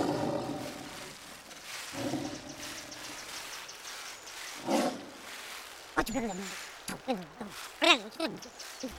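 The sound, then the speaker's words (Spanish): A lion in Kenya lets out deep, rumbling roars in a couple of long bursts, followed by excited voices talking over a steady background hiss. “Ahora que recuerdo, el rugido de un león se puede escuchar hasta 1 kilómetro de distancia.”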